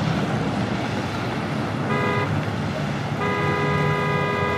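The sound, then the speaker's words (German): A steady roar of engines and street traffic fills the whole clip, broken by two car horn blasts, a short one midway and a longer one near the end: a big city in the morning from Luigi Russolo's 1913 composition 'The Awakening of a City', with revving engines and clattering machines. “Deutlich zu hören sind die aufheulenden Motorengeräusche und das Klappern von Maschinen.”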